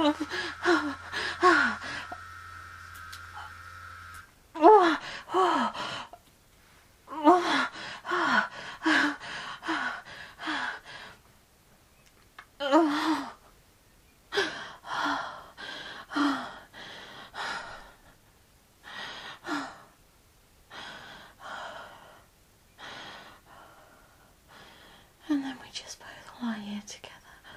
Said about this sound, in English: Body's still locked. Both of us panting. Breathing hard. Coming down slowly.